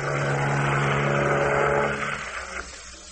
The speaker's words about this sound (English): Night and fog. The throbbing of great turbines, the slow, greasy wash of the sea, and two great ships blindly groping in the dark.